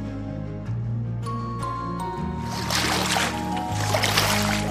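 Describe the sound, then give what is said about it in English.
A hippo swimming in water: a low, steady rumble gives way to broad, churning splashes that build and continue to the end, moderately loud. “A hippo can swim.”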